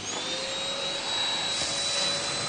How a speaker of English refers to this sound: Ben, could you turn on this Hoover for me?